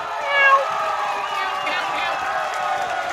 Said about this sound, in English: Oh. Meow, Trunk Cat. Meow.